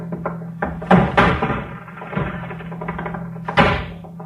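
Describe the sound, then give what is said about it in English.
Heavy thuds against a wooden door, three forceful blows spaced unevenly, with rattling and creaking between them as the door is kicked in. “I don't have a key. Oh, I'll kick it in.”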